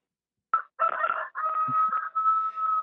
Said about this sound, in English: Every time there's a pause in the conversation, that rooster inserts himself.